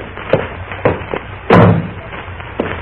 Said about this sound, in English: Won't you please shut my door again?